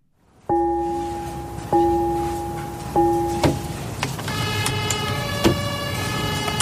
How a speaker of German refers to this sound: Bei der Feuerwehr gehört der Gong und die Sirene vom Löschfahrzeug sicher zu den bekanntesten Geräuschen.